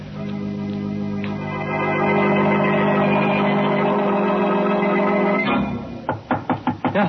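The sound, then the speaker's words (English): A sustained, eerie musical drone swells and then cuts off, followed by about six firm, loud knocks on an alley door in a quick, steady rhythm, while it is raining outside. “Well, that's the alley door. Somebody's there.”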